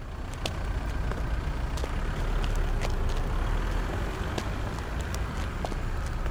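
A steady, dense rumble of street traffic at a large bus stop, low engine noise filling the background, with scattered sharp clicks and brief hisses and no one speaking.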